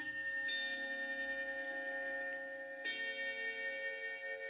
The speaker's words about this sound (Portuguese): Ele também conserta relógios gigantes, daqueles que ficam em pé e a cada hora badalam como um sino, ou como vários sinos, o chamado relógio de carrilhão.